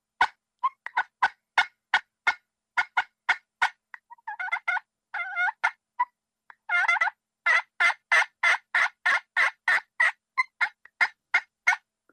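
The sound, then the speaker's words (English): A pot call played with a diamond wood striker imitates a turkey hen, running strings of sharp, evenly spaced yelps broken by short clucks. The notes are loud and steady, with no talking. “Yelp and cluck and purr. If you can do those 3 calls on a pot call, that's all you need to know how to do.”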